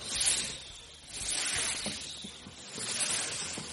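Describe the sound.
A person imitates a snake's hiss, producing three long, breathy hissing swells one after another, fairly loud, with no speech around them.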